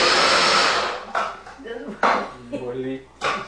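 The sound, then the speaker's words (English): A small electric chopper chopping cooked beans runs in loud bursts: one long whir, then several short pulses with a rising motor whine and the beans rattling inside the bowl. “So I'm just chopping it up, and it cuts it up pretty good.”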